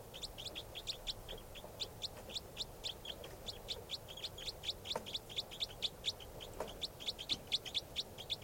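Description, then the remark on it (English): Rapid, repeated high-pitched bird calls run steadily throughout, a fast series of sharp chirps pulsing in quick rhythm over a low background hum, growing slightly stronger toward the end. “That's the bird.”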